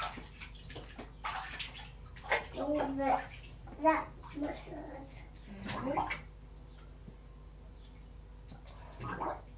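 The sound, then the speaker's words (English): Water is poured over a child's head in a bathtub as a 'water massage', in a few short gushes and splashes, while the child and an adult talk over it. “No, I want a water massage. A water massage.”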